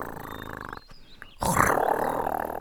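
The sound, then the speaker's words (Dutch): Loud, rough snoring from someone lying in bed, in two long rasping breaths separated by a short pause, the second one harsher and louder, with no voices. “Het gesnurk wordt steeds luider.”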